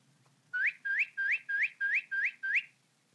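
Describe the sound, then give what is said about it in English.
A bird call: seven quick rising whistled chirps, evenly spaced and fairly loud, repeating in a steady rhythm with nothing else around them. “Sound one was a bird.”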